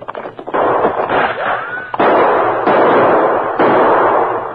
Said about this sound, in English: Tonto, you continue to give answering shots to theirs.